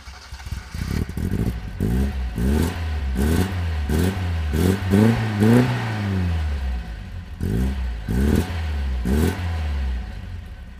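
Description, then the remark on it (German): A rough, older, non-modern car engine revs repeatedly, its pitch climbing and falling in a series of throaty bursts, loud, with clattery mechanical noise and no voices. “Das klingt gut rotzig, wa? Ja, auf jeden Fall kein modernes Auto.”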